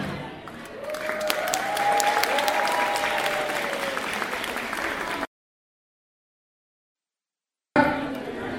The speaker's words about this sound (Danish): Men nu starter vi med at give dem en kæmpe klapsalve. Her kommer danserne fra Burma!